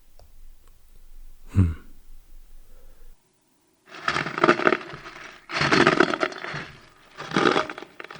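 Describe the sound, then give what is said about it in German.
A single sharp wooden crack, then a pause and three loud, rough creaking groans of a door, each about a second long with brief gaps between them. No one speaks. “Doch, da knirscht was. An der Tür.”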